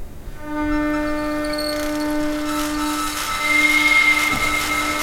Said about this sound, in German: Ab und zu hört man den Strom auch schon ein bisschen, jetzt am Anfang noch nicht. Spätestens wenn der Motor sich anfängt zu drehen, dann kann man den Strom auch hören.